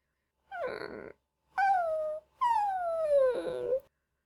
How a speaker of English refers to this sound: The dog scratches its head on Sarge's shin plate and whines.